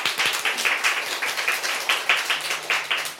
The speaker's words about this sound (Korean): 뜨거운 박수로 맞아주십시오.